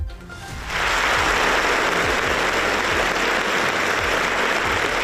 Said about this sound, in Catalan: Un silenci que es trencava amb aquests aplaudiments que ara escoltau a l'auditorium just abans d'un dels actes previstos dins el programa de festes,